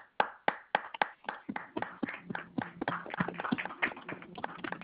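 A round of applause from a small group for a participant after their overall GPA score is announced. It starts with a few crisp, evenly spaced claps that quickly thicken into a steady, overlapping patter of many hands clapping, with no talking.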